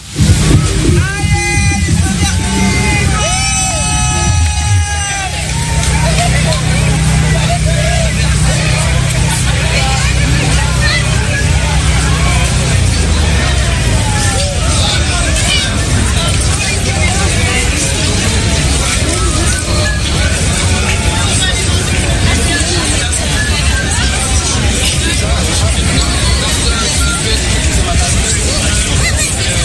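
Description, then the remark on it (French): A dense, steady babble of many voices at the outdoor May Day demonstration of 1 May 2025, recorded by trade unions, fills the whole recording, with high whistling tones in the first few seconds and a low rumble underneath that fades out midway. “dans quelle foule la radio a-t-elle laissé traîner le micro cette fois-ci ?”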